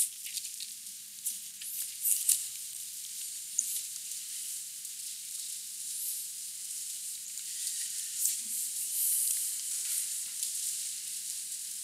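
Bible pages rustle and turn continuously for about twelve seconds as someone turns to Matthew chapter 4, a soft, steady papery crackle with a few slightly sharper flicks, and no one speaking.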